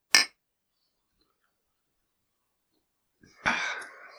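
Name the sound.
glasses clinking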